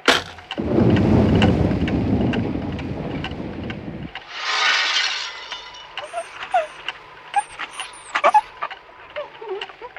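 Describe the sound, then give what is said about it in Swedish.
A heavy rumble of thunder from a thunderstorm rolls in loudly for several seconds, then gives way to a hissing wash of rain and scattered sharp clicks and drips, with no one speaking. “Ja, förresten är livsfarligt att telefonera åskväder så det är så.”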